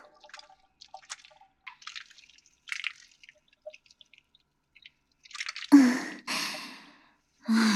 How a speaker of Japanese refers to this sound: シャンプーは多めに、ケチケチしない。後でしっかり流すから。 シャカシャカいくよ。